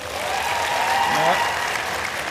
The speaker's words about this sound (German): Einmal klatschen für Naruto. Einmal klatschen für Dragon Ball.